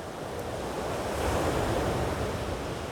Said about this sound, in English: And as your mind quiets and you listen to the waves